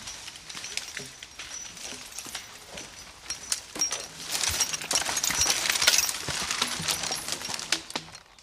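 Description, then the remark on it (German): A draft horse drags a log several metres long through a forest to a skid trail during logging work. Its hooves thud and crunch over the forest ground while the metal chains fixing the log to its harness clink and rattle, and the log scrapes along with a steady rustling drag. “Wenn die mehrere Meter langen Baumstämme mit Ketten an das Pferdegeschirr befestigt werden, warten die Tiere geduldig.”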